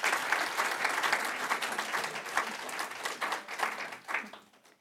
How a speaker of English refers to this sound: It is so great to have a wonderful mystery bookshop that brings together a community of readers and really is such a great benefit to Ann Arbor. So thank you. Let's have a round of applause for Aunt Agatha's.